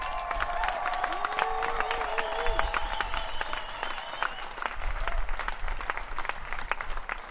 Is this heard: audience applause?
yes